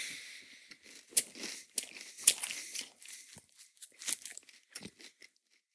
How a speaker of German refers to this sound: Knäckebrot während einer laufenden Aufnahme essen. Noch dazu trockenes Knäckebrot. Und auch schon leicht abgestandenes